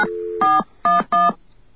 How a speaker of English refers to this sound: So we're going to demonstrate that live on the air. Let's get a dial tone. All right. And now we're going to dial. Of course, you'll see what I'm dialing.